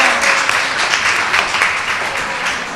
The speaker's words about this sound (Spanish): ¡Un fuerte aplauso!